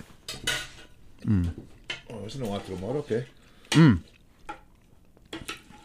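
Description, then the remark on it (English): A utensil stirs scungilli in a pan, giving scattered metallic clinks and scrapes at an uneven pace while people talk over it. “Give that thing a little mixer.”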